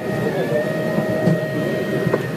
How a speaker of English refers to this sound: Any guesses? Not a robot, per se. Not a new tablet or a self-parking BMW. It's a recording of a 3D printer. Old news, you say? No way, man. Printers from XYZ Printing make cookies.